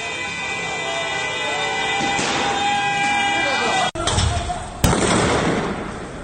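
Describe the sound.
Two sharp, loud gunshots crack about a second apart, fired directly at protesters by security forces in Sardasht and recorded on a citizen's camera, over a noisy outdoor background with voices and commotion.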